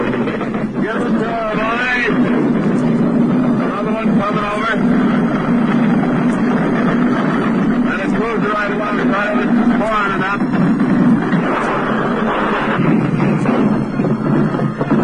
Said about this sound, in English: Here we go again, another plane to come over.